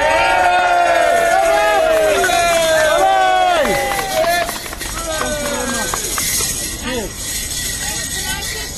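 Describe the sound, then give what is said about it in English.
A loud crowd cheers and whoops after a speech at a Palestine campaign event. Many voices rise and fall together for several seconds before the noise thins into scattered shouts and babble. “Thank you very much, and let's all cheer ourselves up.”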